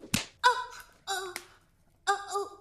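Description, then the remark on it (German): A single sharp whip crack snaps out near the start, followed by three short, high-pitched wailing cries spaced out over the next couple of seconds. “Die Peitsche schlägt Tabs.”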